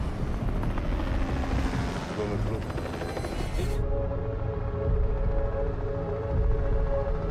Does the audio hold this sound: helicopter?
yes